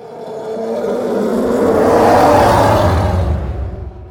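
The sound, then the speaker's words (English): A deep, layered sci-fi spacecraft engine roar, the TIE Fighter bass loop made by layering two elements including elephant growls, with a heavy rumbling bass, swelling steadily to a loud peak midway before easing slightly, heard alone with no voices. “So those two elements layered together are what creates the bass loop for the TIE Fighter.”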